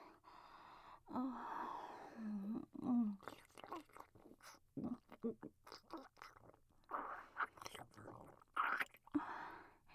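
Soft wet chewing of mushy potato during a feeding, irregular squishy mouth sounds in short bursts, with breathy gasps and faint murmured vocal sounds in between.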